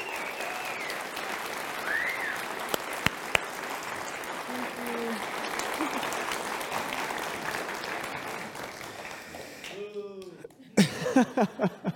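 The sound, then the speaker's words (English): A church audience claps for a departing team member in a dense, steady wave of applause lasting around ten seconds. Scattered whoops and voices rise over it, and a few louder cheers burst out at the very end. “Let's give it up for her.”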